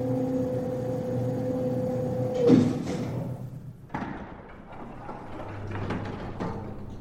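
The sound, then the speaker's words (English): A steady mechanical hum from an elevator ends with a solid thud as the car stops, then after a short pause a sliding door rumbles open with soft clattering. “The door is open.”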